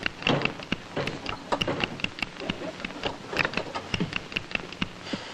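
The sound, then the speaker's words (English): An electrically operated door, out of kilter and failing to work: a dense run of sharp clicks, taps and rattling knocks, irregular, going on throughout without the door ever sliding smoothly. “It's dead. In this marvelous door?”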